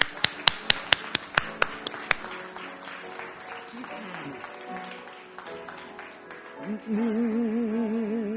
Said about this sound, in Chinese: 我们一起鼓掌，把荣耀归给耶稣。